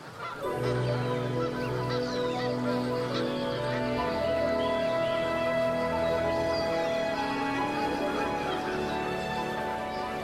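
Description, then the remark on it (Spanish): A large flock of migratory geese and other anatids, thousands landing at a lagoon in autumn, honking continuously, many overlapping calls forming a loud, dense chorus, with water birds calling over one another throughout. “El otoño trae agua y visitantes nuevos, grandes viajeros que huyen de los fríos polares y se refugian aquí año tras año.”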